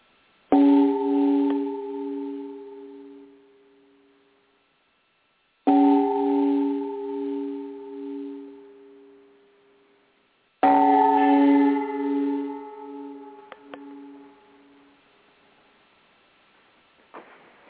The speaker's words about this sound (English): So we will now pause for three chimes for Morning Glory Zell Ravenheart. May she regain her appetite.